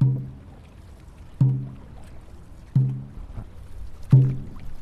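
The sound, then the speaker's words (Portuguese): A deep bass drum booms four times at a slow, steady pace, about one stroke every second and a half, setting the paddling rhythm over a soft wash of paddles and water from a Chinese dragon boat with a dragon figurehead on its bow, paddled by women on the Raia Olímpica rowing course at the University of São Paulo, Brazil. “O bumbo dá ritmo às remadas do barco chinês, que leva na proa uma imponente carranca do dragão.”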